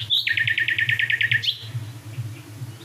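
bird, nightingale singing

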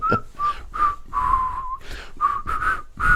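human body sound, person whistling a melody

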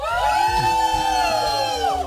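crowd, crowd cheering loudly

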